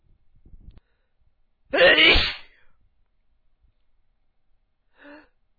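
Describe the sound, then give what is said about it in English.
A single loud sneeze bursts out after a soft breathy intake, followed a few seconds later by a faint short vocal sound. “Making me sneeze.”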